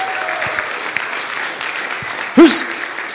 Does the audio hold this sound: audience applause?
yes